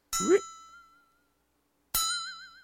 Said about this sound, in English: You sure? I'm going off what sound effects tell me. Flexitone. Flexitone. I think that might slang. I think the slang for that thing is a bell tree. Yeah. Cartoons use that a lot.